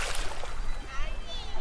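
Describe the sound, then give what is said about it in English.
Water splashes and sloshes steadily from a woman swimming in a crowded four-lane pool, with brighter splashy bursts at the start, while a voice murmurs faintly underneath. “Swimming in these waters was part of what I called home.”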